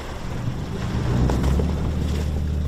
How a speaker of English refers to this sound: I'm on a fishing boat in a fjord in Greenland. And we're nudging our way through icebergs. They're a dazzling white, and with an incredible variety of shapes.